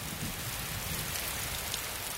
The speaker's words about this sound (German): Ja, Regen, genau.